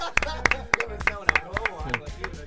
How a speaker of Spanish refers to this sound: El ganador de la primera temporada de la trivia. Te ganaste un aplauso.